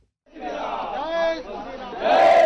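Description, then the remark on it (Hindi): A crowd chants slogans together in loud, sustained unison during Uttar Pradesh Chief Minister Yogi Adityanath's visit to Ayodhya, India, voices rising in pitch midway and swelling louder toward the end, with no single voice standing out. “नारों की गूंज, जोशीला स्वागत और सौगातों का ऐलान।”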